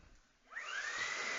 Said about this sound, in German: Oh, jetzt kommt noch meine Mutter mit dem Staubsauger rein.